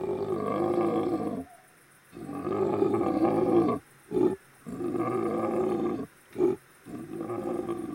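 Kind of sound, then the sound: animal, lion roaring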